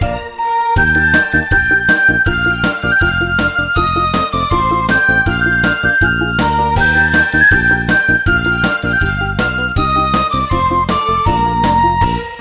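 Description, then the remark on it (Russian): Bright festive New Year bells jingle and chime in a steady, bouncy rhythm, loud, ringing out a cheerful melody over a regular beat with no voices. “Колокольчики играют, с Новым годом поздравляют, и звучит со всех сторон новогодний перезвон.”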